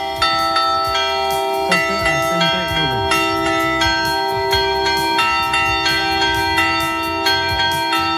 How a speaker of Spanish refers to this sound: Ya de niño identificaba cada toque de campana. Mira, como por ejemplo el de tormenta, también llamado anublado.